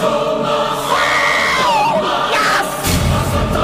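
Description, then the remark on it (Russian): A loud choir of many voices sustains full, layered tones that swell and shift for a few seconds, with a brief burst of louder, brighter voices near the end. “И теперь понятно, зачем вы пригласили в офис дождя целый хор, и стены уже трещат по швам от этой многотрубной, словно органной голосовой вибрации.”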